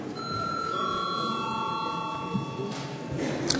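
parliamentary bell rung

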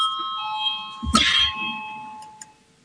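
parliamentary voting bell chime

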